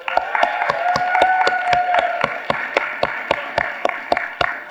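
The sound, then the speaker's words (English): An audience claps in steady, evenly spaced hand claps at a quick beat to welcome people watching online, with a held, cheering yell riding over the first half before fading, leaving the claps alone. “So on the count of three, let's go ahead and give a hand clap or a yell and just welcome them.”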